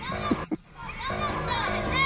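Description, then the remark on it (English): Children gleefully playing outside, picked up in the background by a microphone during a broadcast from home, with overlapping high-pitched shouts, squeals and chatter rising and falling continuously, moderately loud, with a couple of brief sharp bursts near the start. “It actually was the sound of children gleefully playing outside.”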